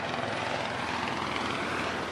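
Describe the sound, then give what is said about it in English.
A police helicopter drones steadily overhead on a warm night in West Baltimore in early May, a continuous broad rumbling roar that holds at an even, moderate level throughout, with no voices or other sounds. “On a warm night in West Baltimore in early May, there were police cars on the streets and police helicopters in the air.”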